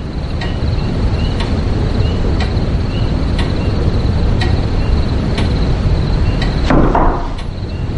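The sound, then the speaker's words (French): A commander knocks on a door: sharp, evenly spaced knocks, roughly one each second, over a steady rushing wind-like noise, ending with a brief louder scrape or thud near the end. No one speaks. “La coutume veut que le commandant frappe à la porte.”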